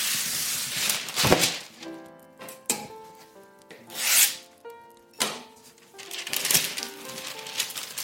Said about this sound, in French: J'ai mon moule à côté et je vais prendre des ciseaux ou un couteau. Ça dépend si vous pouvez couper à même le plan de travail chez vous. Moi, j'ai mon petit plan en inox, donc je peux le faire. Je vais découper une feuille de papier sulfurisé.